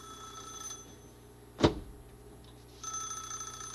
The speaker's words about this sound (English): No, that's the telephone ring. It has a different ring from the back door.